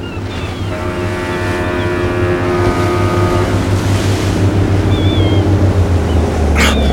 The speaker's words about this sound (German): Doch dann tauchte plötzlich ein Boot der Küstenwache auf und näherte sich mit hoher Geschwindigkeit.